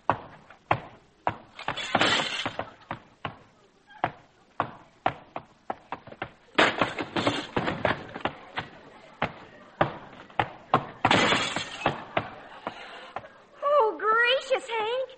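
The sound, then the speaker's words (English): A loud, chaotic run of crashes, bangs and breaking as the legs are broken off a sofa and a foot goes through the front window, with glass shattering among the irregular impacts, followed by a voice crying out at the end. “you broke the legs off the sofa and stuck your foot through the front window.”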